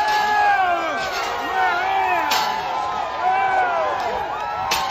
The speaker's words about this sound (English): They smashed windows. They forced their way into the hallways, into lawmakers' offices, onto the Senate and House floor. There was gunfire inside.